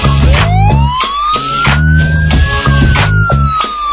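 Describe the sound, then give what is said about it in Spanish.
A loud ambulance siren wails in a long rising sweep over a steady, thumping musical beat, both carrying through the whole stretch without any voices. “A ellos no los va a buscar a su casa ni una puta ambulancia.”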